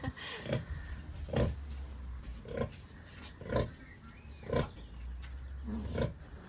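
Piglets suckling on a working farm, with a steady run of short, rhythmic grunts and squeals repeating about once a second, fairly loud over a low rumbling background. No one speaks.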